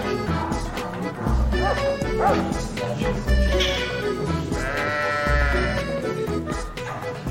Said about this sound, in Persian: ببخشین گوسفند ما حالش بده. یه چند لحظه صبر کنید.